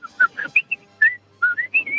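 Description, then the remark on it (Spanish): A person whistles a quick melodic tone imitating the message alert of his wife's phone: a string of short, bright notes rising and falling in two bursts with a brief pause between, no talking. “Pero luego después el ruido de mensaje de teléfono de mi mujer es el típico Weasley.”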